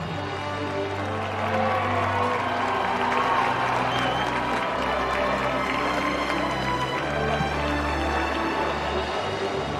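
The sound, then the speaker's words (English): A large crowd outside roars and claps continuously, a dense wash of cheering and clamoring voices that stays loud and steady throughout, with a low droning hum underneath. “Then I realize that outside, the crowd is clamoring for me.”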